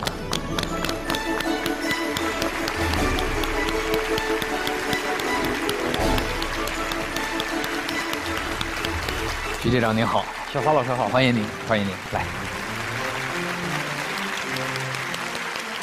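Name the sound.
audience applause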